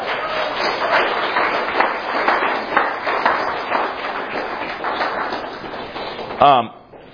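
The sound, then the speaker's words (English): A conference audience applauds, thanking the women who served at the conference, in a dense, steady wash of clapping for about six seconds, then it cuts off sharply with a brief ringing tone as the clapping fades. “You can applaud for them.”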